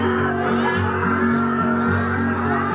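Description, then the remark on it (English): Voices imitate a hen clucking in a loud, steady, sung burst, the cackling calls repeating over a couple of seconds with a thick, crowd-like tone. “The hen went.”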